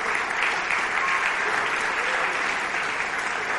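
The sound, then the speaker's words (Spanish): A church audience claps together in sustained, dense applause for the Lord, a steady wash of many hands at even loudness throughout, with no distinct voices standing out. “Denle un aplauso al Señor, denle un aplauso al Señor.”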